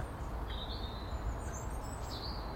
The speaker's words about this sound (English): Quite a bit of activity of the birds this morning too. All flitting about, doing their ting.